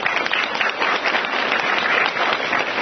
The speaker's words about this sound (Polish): Wielkie brawa.